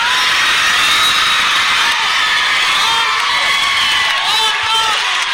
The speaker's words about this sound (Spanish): El griterío por el mensaje de Araceli Arámbula